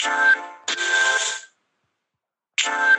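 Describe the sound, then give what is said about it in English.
Bright synthesized electronic tones from a music app on a touchscreen phone, played by touching the screen, sound in three short bursts, with a sustained pitch in each and a clear silent gap before the last burst. “So I'm gonna play a little bit on my phone here.”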